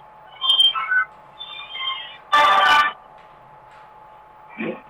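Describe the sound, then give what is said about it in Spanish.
A telephone rings with a short run of high, melodic electronic tones, pauses, then chimes again before a brief burst of harsh, crackly noise cuts in. “justo me estaba interrumpiendo el teléfono.”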